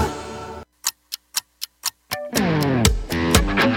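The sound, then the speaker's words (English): A clock ticks six times in a crisp, steady rhythm, alone in a brief quiet gap, set between a burst of noisy sound and loud, swelling music that follows. “Clock's ticking, y'all.”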